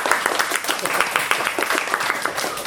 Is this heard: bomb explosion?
no